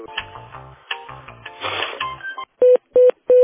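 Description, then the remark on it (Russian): Telephone call-transfer tones as a call is transferred to a specialist: a burst of busy, warbling electronic tones, then three evenly spaced loud beeps. Nobody speaks. “Сейчас, секундочку, я его переведу на специалиста.”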